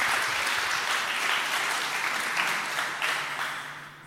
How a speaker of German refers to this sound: Okay, trotzdem. Applaus für